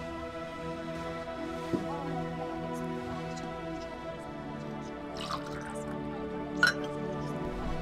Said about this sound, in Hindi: ठीक है, तुम यहीं पर बैठो, मैं जरा पानी पीकर आता हूँ, ठीक है?